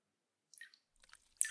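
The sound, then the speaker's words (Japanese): Soft water sounds of hot water during ear cleaning: a few wet drips and gentle sloshing splashes arrive in irregular bursts after a moment of silence, ending with a slightly louder splash. “それに、水音も聞こえて、癒し効果も抜群だよ。”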